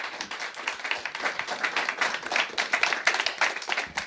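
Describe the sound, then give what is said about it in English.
Steady audience applause for the bands at a festival fills the whole stretch, a dense, bright patter of many hands clapping at a fairly even loudness, with no talking over it. “My big applause for the bands.”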